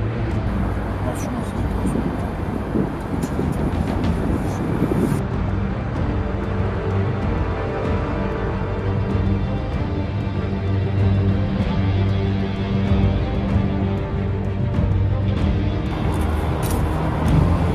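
A steady, loud car engine rumbles continuously, its low drone holding even throughout with no pauses or changes in pace.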